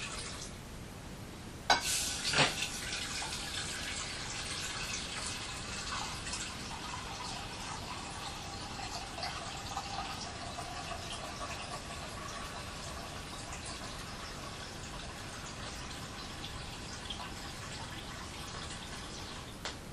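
Water pours steadily from a tap into a bowl, a continuous splashing hiss with a couple of sharp clinks near the start as the stream hits the container.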